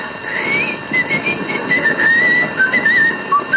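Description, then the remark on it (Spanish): A thin, high-pitched whistle wavers and glides over a steady noisy hiss, imitating the ringing of ears. It is fairly loud and continuous for a few seconds, with no talking. “Doctor, tengo un silbido en el oído.”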